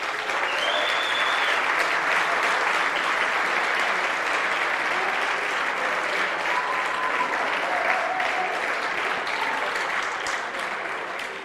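Sustained, loud applause from a large audience fills the whole stretch, a dense wash of clapping with occasional faint cheers and whistles mixed in.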